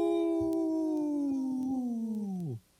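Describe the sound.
A person on a radio show about Minnesota's wolf population imitates a wolf howl: one long, loud, steady wail lasting about two and a half seconds, gradually sinking in pitch before dropping off sharply at the end.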